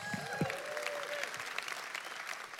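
An audience applauds with steady, dense clapping that fills the whole stretch, a few sharper claps and a brief whistle-like tone standing out over the crowd noise.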